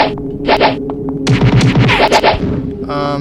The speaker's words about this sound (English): Alright, so, what you're hearing, is a person coming towards me. I'm gonna punch with the space bar.